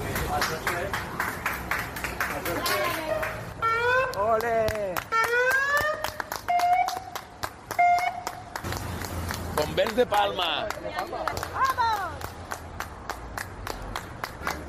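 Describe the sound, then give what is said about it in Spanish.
A crowd in Bellreguard, Valencia, claps steadily and rhythmically throughout while people shout and cheer excitedly over the applause, greeting passing aid vehicles of emergency teams from the Balearic Islands after a tragedy; a lively, continuous outdoor ovation. “Emociona ver cómo los valencianos reciben con aplausos y lloros la ayuda tras la tragedia.”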